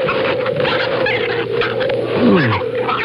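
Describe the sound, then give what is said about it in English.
An otter with its leg caught in a trap whimpers, a short high whine that slides downward in pitch, rising briefly above a steady, noisy rushing background. “For crying out loud, it's an otter.”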